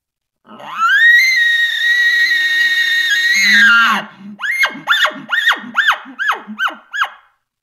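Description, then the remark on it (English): An imitated elk bugle, a hunter's call to a bull elk to incite it: a loud, high whistling note that rises and holds for several seconds, then drops into a rapid series of about eight rhythmic, grunting chuckles. No talking. “And I'll throw those calls out myself to see if I can incite that in whatever elk I'm calling to.”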